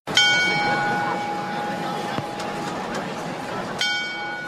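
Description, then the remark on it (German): A bell of the astronomical clock in Prague, back in operation after a restoration, rings out with a sharp strike at the start and another near the end, its tones lingering and ringing over a busy background of crowd murmur. “Auf diese Glockenschläge mussten die Prager und ihre Gäste fast ein Dreivierteljahr verzichten.”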